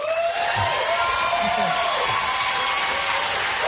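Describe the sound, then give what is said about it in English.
An audience applauding and cheering, a dense, steady wash of clapping that stays loud for nearly four seconds, with a few whoops and raised voices rising above it. “They didn't hold up applause, did they?”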